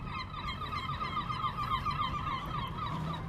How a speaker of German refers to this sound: Wellen plätschern im Hafenbecken. Möwen kreischen. Einige sitzen frech auf den hohen Masten der Segelschiffe und beobachten frühstückende Bootsmänner und Frauen.